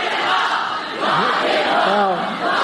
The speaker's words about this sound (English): Look at all these hopeless women, too. Look. Cheering their pedophile god.